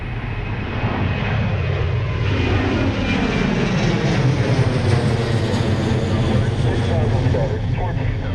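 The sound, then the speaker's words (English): A steady, loud airplane engine drone fills the whole stretch, a deep continuous rumble with a faint high whine on top. “Take a plane from Sydney to London and you'll be in transit for around 24 to 26 hours.”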